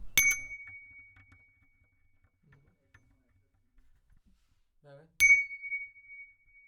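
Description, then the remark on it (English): Two bright, clear bell dings about five seconds apart, each with a sharp metallic strike and a high ringing tone that lingers and slowly fades, with near silence between them. “14. A bell, 15. An empty coconut on a plastic table, 16. Another bell.”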